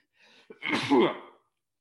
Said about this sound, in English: Pause. Needed to sneeze. Sorry about that.